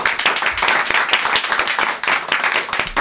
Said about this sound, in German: Ja, nochmal einen Applaus